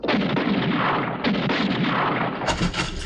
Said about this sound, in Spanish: Está nervioso y dispara aún sin poder mirar bien por la pluma. Está oculto en alguna de las barracas y queda justo de frente al sol. Está deslumbrado y no podrá acertar los tiros.